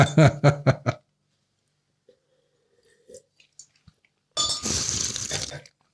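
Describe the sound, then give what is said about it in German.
Wine glasses of overly warm white wine clink together in a toast in a studio at 38 degrees: a few short, light chimes, followed by a burst of breathy, rustling noise, with a brief stretch of voice at the very start. “So wie wir jetzt hier in diesem Studio bei 38 Grad mit einem viel zu warmen Weißwein. Prost.”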